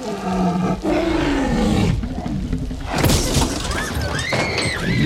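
A huge, bellowing T-Rex roar from a movie dominates, a deep rumbling growl that swells and rasps, followed by a crashing, shattering burst and shrill squealing tones, loud with no talking.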